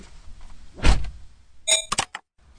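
A car door shuts with a solid, low thump as a driving instructor closes it for a learner driver after they swap seats. A quick burst of clicking and rattling latch sounds follows, then quiet.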